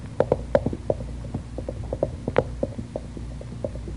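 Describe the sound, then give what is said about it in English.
Eddie's horse, which had been tethered back in the woods, galloping away through the woods: a quick, uneven run of sharp hoof clops, some louder than others, over a low steady hum, with no voices. “Eddie must have had a horse tethered back in the woods.”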